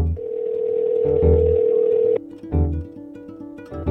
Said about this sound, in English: This podcast begins with a ringtone